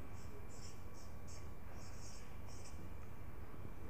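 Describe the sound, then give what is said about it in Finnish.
A red marker pen scratches across paper in short, quick strokes with brief pauses between them, writing the Greek word for fish in Latin letters, fairly quiet over a low steady background hum. “Mä nyt kirjoitan sen meidän aakkosilla.”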